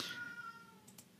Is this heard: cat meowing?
yes